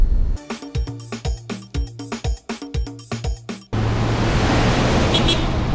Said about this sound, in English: Gosh, these people drive like mad people. It's so much traffic on the road these days.